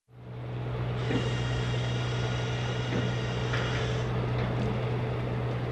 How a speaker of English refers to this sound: The harbors buzz with the sound of power tools, boats loading gear, and coming and going from their stalls. It's time for last-minute projects before hauling crab pots to the fishing grounds or testing nets and training new crew.